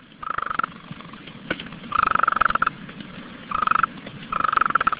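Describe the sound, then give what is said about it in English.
A golden toad of the elfin cloud forest above Monteverde, Costa Rica calls in four short, pulsing trills, each a quick rattle lasting under a second, spaced irregularly against a steady low background hum with no voices. “The golden toad's voice wasn't much, but its story read like a fairy tale.”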